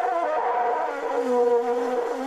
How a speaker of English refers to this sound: But by now, everybody knows that the droning, blaring, endless buzzing sound that has defined the World Cup of 2010 is the previously unknown but now infamous vuvuzela, a traditional Zulu instrument that looks like a long horn